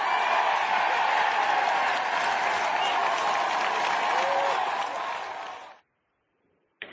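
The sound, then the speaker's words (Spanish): A large crowd shouts, applauds and cheers loudly and steadily for several seconds as Pedro Sánchez confirms his candidacy for the PSOE primaries in Spain, then the sound cuts off abruptly into silence before a brief burst returns at the very end. “Gritos y aplausos”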